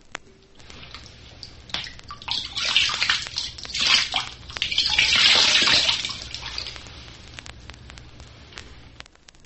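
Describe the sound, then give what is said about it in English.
Water is emptied from a horn into a lake or river from about 3 feet at a varying rate, imitating a cow moose urinating; it pours and splashes in uneven surges for several seconds before trailing off into drips, with no talking. “From a height of about 3 feet, empty the horn into the lake or river at a varying rate.”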